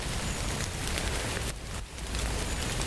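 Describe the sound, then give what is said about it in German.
Steady, dense hiss of rain falling, a continuous wash of patter at even loudness with a brief slight dip midway, and no voices present. “Da sage ich, das kann jetzt aber nicht sein, weil ich merke hier doch ganz deutlich, dass es regnet.”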